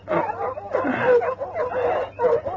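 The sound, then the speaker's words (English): Several dogs bark excitedly and nearly nonstop at night, their overlapping yaps and woofs loud, with brief whines mixed in. “What the dickens is the matter with the dogs?”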